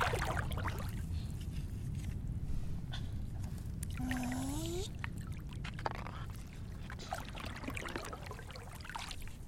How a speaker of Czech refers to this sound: Je moře hluboký a nebezpečný. Ale teď je zim a dělají se pomalu vlny.